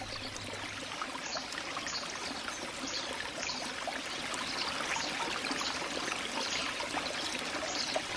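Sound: flowing spring water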